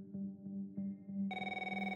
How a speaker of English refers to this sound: Nico receives an unexpected phone call.